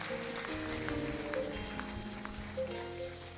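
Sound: audience clapping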